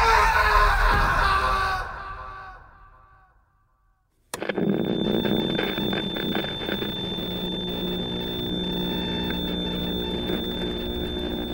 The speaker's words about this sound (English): And as the creature's tentacles lashed out towards us, as its maw opened wide to reveal row upon row of jagged razor-sharp teeth, I could only scream. The sound echoing through the chamber like the final desperate cry of a condemned soul.